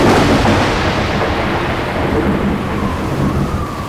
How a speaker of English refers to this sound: It was pouring. The group realized that they have to do everything quickly. But the problem was, they couldn't see a thing. The strong rains and the strong winds was making it so difficult for them to walk.